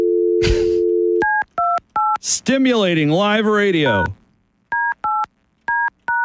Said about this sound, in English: Just dialed him back. We'll see what happens. Here, let's go straight to it. We can hear it ring. And I think I dialed it wrong.